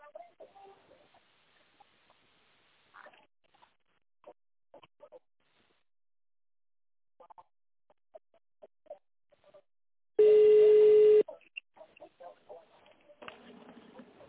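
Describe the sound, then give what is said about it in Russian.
A single loud touch-tone beep lasting about a second, dialing an employee's extension number in tone mode on a company phone line, cuts in sharply between stretches of faint, intermittent talking. “Если вы знаете внутренний номер сотрудника, наберите его в тоновом режиме или дождитесь ответа секретаря.”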